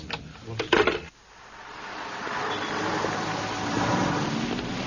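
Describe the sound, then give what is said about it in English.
A short clatter of mechanical noise, then a truck engine rumbles up and holds a steady, fairly loud drone with a rough edge of grinding gears, at night in South London. No one speaks. “South London, where grime grows faster than crime and truck gears grind all through the night.”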